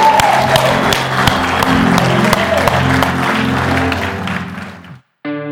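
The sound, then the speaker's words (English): A large church audience at Valley Metro Church roars and cheers with scattered clapping, shouting out praise on the count of three, a loud, sustained wash of voices that holds steady for about five seconds before cutting off abruptly, followed by a brief tonal burst. “So on the count of three, on the count of three, I want you to light it up and shout it out, and I'm talking all the way, okay?”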